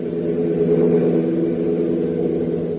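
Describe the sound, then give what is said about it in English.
A car engine roars steadily as the vehicle accelerates hard down a state highway, a loud, continuous mid-pitched rumble with a sustained hum that holds for about three seconds with no speech. “At the Major's gloomy words, Hop jams his foot even harder against the accelerator, and the car literally rockets down the state highway.”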